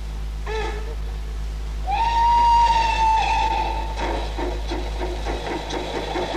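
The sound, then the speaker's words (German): A loud, noisy passenger train heard from on board, rumbling along the rails, with a constant low roar and a long, steady high-pitched squeal or whistle rising over the clatter midway through. “sitzen wir nun im Zug. Mensch, macht dir aber einen Krach.”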